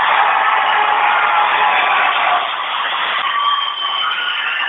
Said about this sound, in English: And that's the loudest the crowd's been all week.